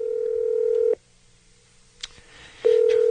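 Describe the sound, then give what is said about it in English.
A telephone call to the Covered California Help Hotline, made to cancel Obamacare, purrs with a steady electronic ring tone, goes quiet with a couple of faint clicks, then the ringing tone starts again, fairly loud, with no one speaking. “Hello, and thank you for calling the Covered California Help Hotline.”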